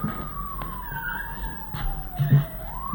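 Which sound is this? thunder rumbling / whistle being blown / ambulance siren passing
ambulance siren passing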